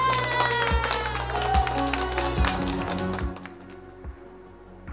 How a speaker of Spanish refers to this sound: Ahí te va, Fiera. Va el aplauso.